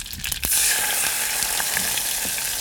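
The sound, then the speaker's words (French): Spices sizzle and crackle in a hot pan, a steady, loud hiss dotted with quick pops that surges up after a brief quieter moment and keeps going with no talking. “Là, ça crépite. C'est le moment.”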